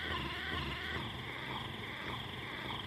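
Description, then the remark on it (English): A vibrator rotating at full speed with its vibration turned off gives off a steady, unbroken motorized whir, like a small blender, holding an even loudness throughout with no voices. “It does kind of sound like a blender, right?”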